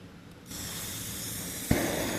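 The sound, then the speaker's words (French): A gas burner with a faulty pilot flame is lit with a lighter; it starts hissing steadily, then catches with a sudden soft whoosh and keeps roaring a little louder. Fairly quiet, with no talking. “Donc je dois toujours allumer avec le briquet.”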